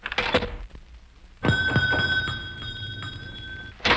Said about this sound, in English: Hello, Mr. Benny. Gee, it's good to... Never mind that, Dennis. Are we alone? Yes. Quick, close the door.